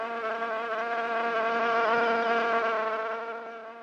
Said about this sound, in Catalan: I que emprenyadora arriba a ser, era la mosca.